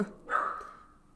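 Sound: puppy barking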